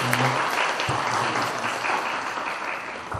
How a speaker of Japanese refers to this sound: それでは皆さん、もう一度周りにおられます熟年者のために祝福の拍手をお願いしたいと思います。